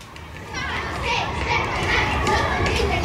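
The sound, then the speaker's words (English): A busy din of children playing in a school playground, with overlapping high shouts, chatter and squeals forming a steady, fairly loud wash of young voices throughout. “Here I am, standing outside a school playground.”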